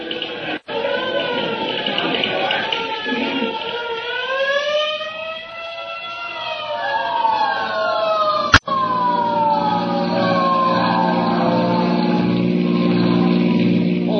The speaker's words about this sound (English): Hey, there's a hook and ladder on the street right now.